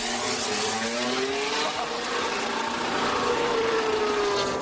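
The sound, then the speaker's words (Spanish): Williams' new Formula 1 car for this season, driven by Carlos Sainz on its first laps, roars past, its high-pitched engine whine rising and falling in steady sweeps through the gears, loud and continuous with no voices. “Primeras curvas en su nuevo coche, que ha dicho el piloto español, Carlos Miquel.”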